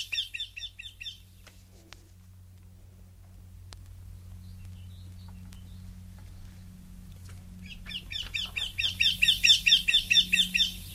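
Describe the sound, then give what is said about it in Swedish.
A Eurasian wryneck calls in rapid runs of sharp, repeated notes: a brief burst at the start, then a louder, longer series near the end, with a low steady hum in between. “Tänk om vi skulle spela upp lite göktyta här, både för fru Hellsten och för oss andra.”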